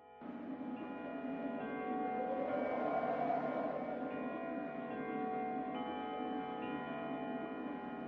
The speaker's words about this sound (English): When Scotty awoke, the chimes of the neighboring church had struck the 4 quarters, so he listened to the hour. To his great astonishment, the heavy bell went on from 6 to 7, and from 8 to 9, and regularly to 12.